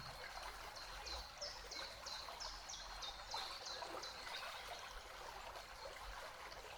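nature, flowing

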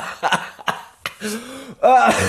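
human body sound, coughing fit

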